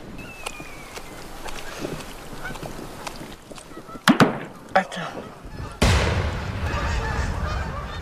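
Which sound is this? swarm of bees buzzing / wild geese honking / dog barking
wild geese honking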